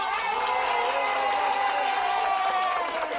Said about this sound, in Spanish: ¡Un aplauso!